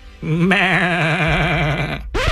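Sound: sheep bleating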